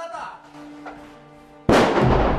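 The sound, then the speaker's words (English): A grenade explodes inside a derelict building during urban warfare training: a soldier shouts "grenade" and a steady hum comes first, then a sudden, loud, full-bodied blast bursts out and keeps roaring until the end. “In a derelict building, a soldier shouts grenade and steps back behind a door.”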